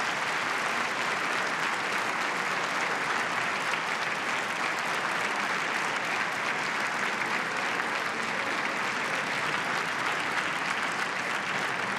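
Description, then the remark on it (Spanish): A large audience in Chile's Congress claps in sustained, even applause after a call for a total ban on gun possession, a dense wash of many hands that holds steady throughout without swelling or fading, with no voices rising above it. “Yo sé que hay algunos que no aplauden cuando decimos esto.”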